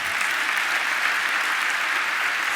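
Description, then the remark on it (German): Steady audience applause for a speaker at the end of his talk, a dense wash of many hands clapping at an even, sustained loudness with no voices standing out. “Vielen, vielen Dank für deinen Vortrag und ich glaube, das ist dein Applaus.”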